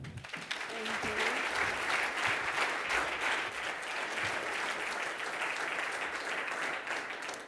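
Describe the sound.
Sustained audience applause, a dense steady wash of many hands clapping at an even loudness for several seconds, with a faint voice briefly audible near the start.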